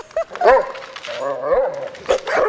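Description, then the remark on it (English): Four dogs bark and whine in short, excited bursts, fairly loud, with yips and whimpers mixed among the barks across a couple of seconds, at a dog training and doggy daycare facility outside Reno. “So your dogs have no discipline? They are not the best, always mannered.”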